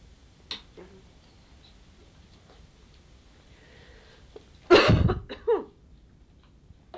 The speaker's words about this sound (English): I don't usually cough. This is quite a novelty for me.